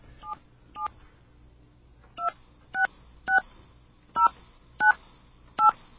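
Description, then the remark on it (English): Eight short touch-tone beeps from a BAI phone system keypad as a number is dialed, each a crisp two-note chirp: a quick pair, a pause, then six more at a steady pace. No one speaks. “It almost sounds like something's dialing.”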